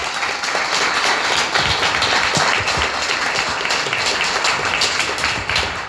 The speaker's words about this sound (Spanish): Un aplauso.